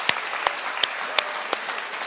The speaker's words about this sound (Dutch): Dus geef jezelf maar even een applaus.